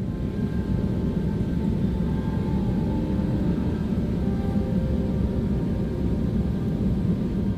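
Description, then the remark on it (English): Steady, loud engine drone fills an airplane cabin, a dense low roar with faint tonal whine above it, constant and unbroken throughout with no voices. “This was a video sent to PDB from someone inside an airplane.”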